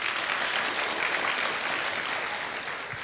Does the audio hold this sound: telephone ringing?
no